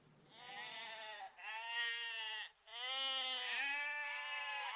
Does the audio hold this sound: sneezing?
no